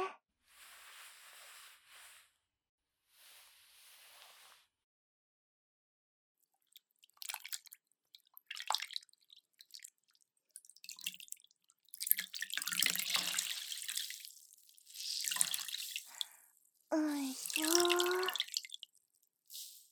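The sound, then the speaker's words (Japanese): Wet swishing and dabbing as a damp cloth wipes away foam, with dripping water and soft splashes in uneven bursts, then a short squeaky tone near the end. “じゃあ泡をふきふきしようね”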